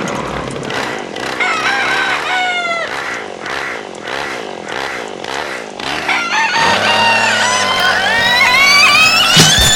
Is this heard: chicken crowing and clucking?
yes